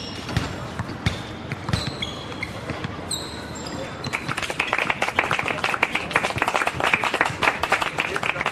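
Scattered claps over faint tonal sounds give way to a crowd's steady, dense applause that fills the second half at moderate loudness.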